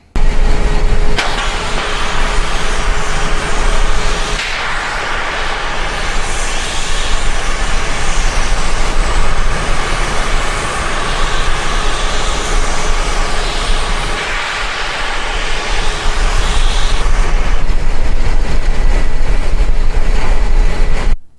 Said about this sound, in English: And no, that wasn't a steam engine, that was the Falcon 9 rocket.